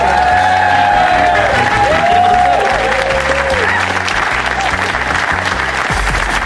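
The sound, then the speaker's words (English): Loud, sustained applause from the audience at the Leicester Square Theatre for Charlie Higson, dense and steady, with whoops and cheers rising over the clapping, then continuing without a break. “And please give a massive round of applause to the amazing Charlie Higson.”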